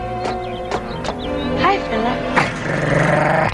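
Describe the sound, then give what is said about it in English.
A strange dog growls steadily, with several sharp snapping bursts breaking through the low rumble as it tries to bite someone reaching out to pet it, the loudest near the end. “He tried to bite me.”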